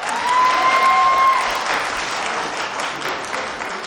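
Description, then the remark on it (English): An audience at a recovery meeting bursts into steady applause to celebrate a speaker's clean date, many hands clapping in a dense, loud patter that eases slightly toward the end, with a brief high whistle-like tone early on. “We can clap now.”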